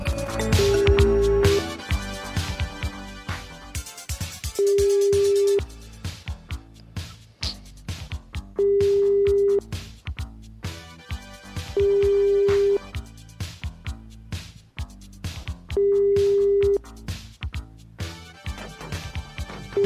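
A steady telephone ringing tone of a call placed live by a show on Radio Kol Chai to a listener repeats five times, each burst lasting about a second with roughly three-second gaps, sounding clearly over busy background music.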